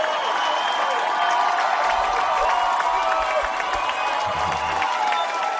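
A crowd applauds and cheers a woman loudly and steadily, dense clapping blending with shouts and whoops, with a rhythmic chant of her name rising beneath the noise toward the end.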